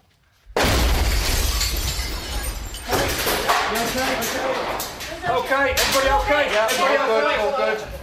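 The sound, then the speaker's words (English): An ISIS suicide car bomb explodes with a sudden, deafening boom, followed by glass shattering and debris crackling for several seconds, while agitated voices begin shouting over the noise. “It's car bomb.”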